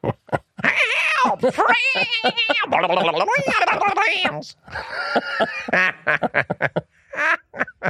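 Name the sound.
cartoon duck voice imitation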